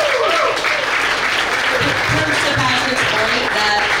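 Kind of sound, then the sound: crowd, audience applause and cheering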